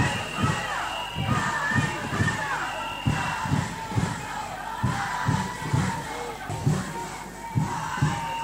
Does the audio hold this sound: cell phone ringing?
no